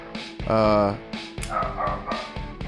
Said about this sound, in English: I hope the editors have left Joe's barking dog in the back for all this.